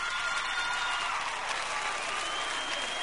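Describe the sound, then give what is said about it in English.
Women in an audience clap steadily for about three seconds, a dense, even patter of many hands with a faint murmur of the crowd underneath. “Let me hear the women clap that are loyal to their men, truthfully.”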